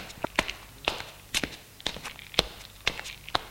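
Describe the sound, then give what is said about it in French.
Footsteps of a woman in black high-heeled shoes walk along a dark corridor at a steady, unhurried pace, about seven crisp heel-and-toe clicks spaced roughly half a second apart, moderately loud with no voices. “Longe un couloir.”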